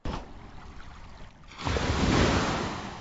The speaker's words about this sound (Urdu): آئیے سب سے پہلے ہم پانی کے ذریعے, سیلاب کے ذریعے, اس پانی کے طوفان کے ذریعے آنے والی کچھ تباہیوں کو دیکھتے ہیں اور اسے عبرت حاصل کرتے ہیں. دکھائیے ہمارے مدنی چینل کے ناظرین کو پانی کی تباہیاں.